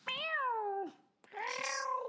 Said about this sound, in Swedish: Lät som en katt.